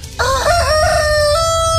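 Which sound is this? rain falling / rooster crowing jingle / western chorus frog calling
rooster crowing jingle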